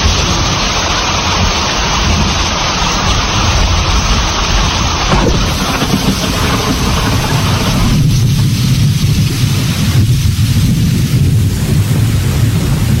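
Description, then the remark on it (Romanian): Steady, dense rain pours down in a continuous wash of hiss, with a deeper rumbling undertone growing in the second half. No voices are heard. “Acum plouă, în ziua aceea a nins.”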